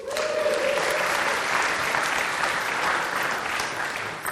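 A crowd claps steadily and loudly for about four seconds, cheering as a helper comes up to assist the speaker with an object lesson, with cheering voices mixed into the dense, sustained applause and one brief whistle-like tone near the start.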